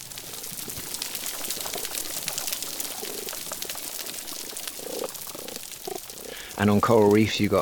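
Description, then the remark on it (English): Dense, constant crackling of snapping shrimp on a coral reef, a fizzing wash of countless tiny clicks that fills the background, with a man's voice speaking over it near the end. “you can hear this crackling sound, constant crackling. That's the sound of snapping shrimp”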